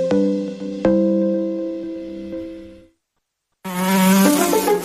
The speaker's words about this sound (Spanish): Atención al movimiento de la mosca, que cambio de ritmo, caracolea en las inmediaciones de la pared. Se dirige hacia la medular de la ventana y ojo, que ha habido un contacto fuerte dentro del área transparente.